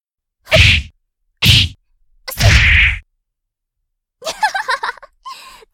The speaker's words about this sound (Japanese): 食らってんじゃん。本当に私のパンチ見えてないんだね。